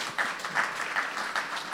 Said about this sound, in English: Please give my panelists a round of applause for their insights on this.